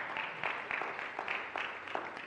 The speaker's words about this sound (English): Let's have another big round of applause for Charlie Brown, the Great Pumpkin.